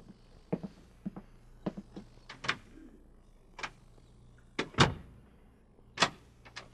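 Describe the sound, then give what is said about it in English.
A hospital door at Walter Reed Hospital is pushed shut with a solid thud, followed by a series of sharp, irregular clicks and clunks as it is locked, with no voices. “The door will be locked.”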